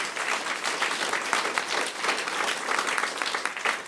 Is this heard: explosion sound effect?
no